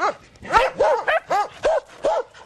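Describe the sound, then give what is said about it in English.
Sled dogs, kept to pull sleds through deep snow, bark in a quick, steady run of about six sharp, yelping barks, some slightly overlapping, loud, with no one talking. “The Neves historically have kept large amounts of dogs as sled animals to pull through the deep snows here.”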